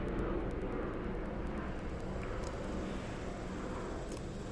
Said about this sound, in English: Hey, here's a plane flying over. Sounds like it.